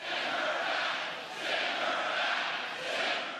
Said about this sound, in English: but last night the crowd was with him as they chanted, "Send her back," a reference to Trump's racist tweets over the weekend and an echo of the lock her up chants from his campaign